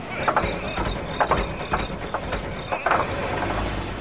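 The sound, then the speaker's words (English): A car engine idles with a steady, low rumbling hum, broken every half second or so by brief rattling clicks that rise above the drone. “No, I am not, Dominic, because I have the engine running.”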